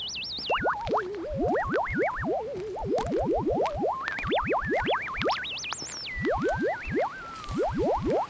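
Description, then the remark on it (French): Cartoonish bubble pops and bloops, a rapid stream of rising, springy boings with wobbly warbles between them, loud with no voices, as a bubble net is pushed into bubbles above a bubble machine to scoop them up one by one. “récupérer les bulles une à une en enfonçant l'épuisette dans les bulles.”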